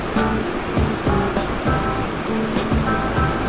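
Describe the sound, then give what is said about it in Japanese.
A steady, full rush of river water flowing beside a riverside open-air bath at a hot-spring inn in Japan, continuous and fairly loud with a constant churning hiss and low rumble, with no voices over it. “川の音が聞こえますでしょうか。”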